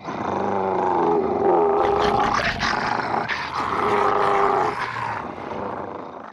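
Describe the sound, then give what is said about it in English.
A big, ferocious three-headed dog with sharp teeth at the entrance to the underworld growls and roars loudly and continuously, deep snarling layered into overlapping roars that stay intense for several seconds, with no one talking. “Suddenly, Hercules sees a big dog with three heads.”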